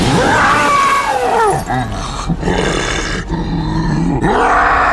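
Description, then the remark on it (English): A huge scaled, winged monster growls and roars with wavering, sweeping cries as it bursts from the ground of a planet, over a dense, continuous rumble of shattering, crumbling ground, loud throughout. “The creature burst from the shattered ground, scaled wings blocking out the sun.”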